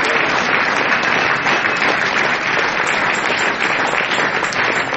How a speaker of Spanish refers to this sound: Dar unos aplausos fuertes al Señor Jesús.